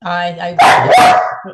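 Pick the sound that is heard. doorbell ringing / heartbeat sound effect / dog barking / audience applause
dog barking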